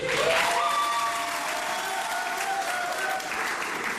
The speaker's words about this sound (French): là, c'est un centrafricain qui a fait quelque chose de bien. On doit l'applaudir.